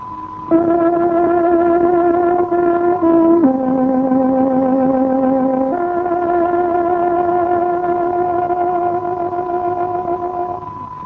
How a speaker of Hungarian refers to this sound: Kedves hallgatóink, pontos időjelzést adunk. Tárogatónk 14 órát jelez.